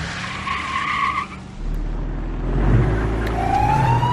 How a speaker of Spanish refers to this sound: Varios coches patrulla persiguen a este hombre, que continúa a toda velocidad huyendo por las calles del pueblo.